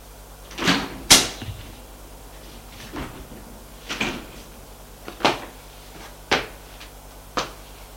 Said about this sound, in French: On a frappé à la porte, il dit « Entrez !» sans bouger.